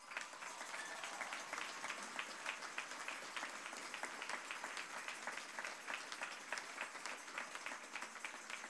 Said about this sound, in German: Ein Applaus.